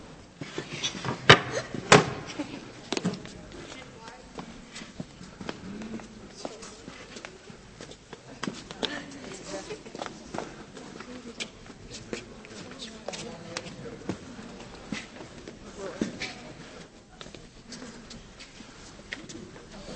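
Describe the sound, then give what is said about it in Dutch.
During a church service, children file past one by one from one side to see what is inside something. Shuffling feet and rustling movement mix with scattered clicks and knocks and soft murmuring voices in a reverberant space. “Als we nou één voor één hier langs lopen, vanaf deze kant, en dan kunnen jullie daarna, we gaan nog zingen trouwens, dan mogen we één voor één zien wat erin zit, maar gaan we niet doorvertellen.”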